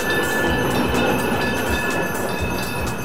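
A tram rumbles steadily along its rails, a continuous loud roll with a faint thin metallic whine riding above it and no voices.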